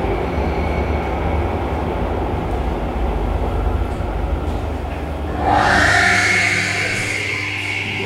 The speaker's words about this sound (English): This hauntingly strange sound was produced by an escalator at Hansa Platz and recorded in 1995. I've played around with it a lot. Slowed down, the sound reminds me of the sounds of a humpback whales.